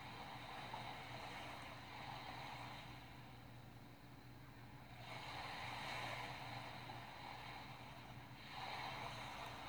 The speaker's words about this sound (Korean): 조금 더 파도 소리를 들으면서 쉬십시오.